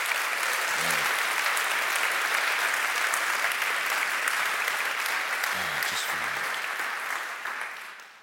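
A crowd applauds steadily, a dense, even wash of clapping that holds loud for several seconds before tapering off at the end, with a few brief voices breaking through the noise.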